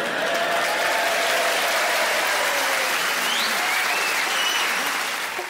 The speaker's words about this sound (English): I don't know if you realise as an audience what that noise means to performers. That simple act of applauding, it's everything you work for as a performer, but that noise could drive you mental.